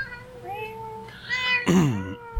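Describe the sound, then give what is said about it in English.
A cat meows a few times, drawn-out calls with a rising, wavering pitch, ending in one louder, strained meow near the end. “cat decided to take over the podcast. Yeah. Meow.”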